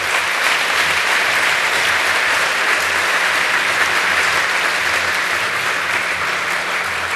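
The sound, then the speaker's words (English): Sustained audience applause after a talk, a dense, steady patter of many hands clapping at an even loudness for several seconds, with no voices rising above it. “Your applause.”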